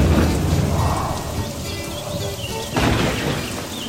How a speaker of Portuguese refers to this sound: Naquela noite, a chuva não cessou. E com a chuva, vieram muitos raios. E não é que um deles caia em cima do curral da família Barroso.